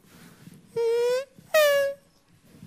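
Two brief, whining race car engine tones sweep by one after another at a race track, showing the Doppler effect. The first rises slightly, the second starts higher and slides down in pitch, over a low, murmuring background.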